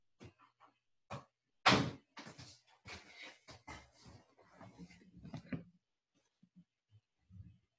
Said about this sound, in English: Quiet it down. Close the door.